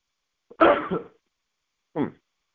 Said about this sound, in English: All right. Praise God. I'd have to sneeze again. But excuse me.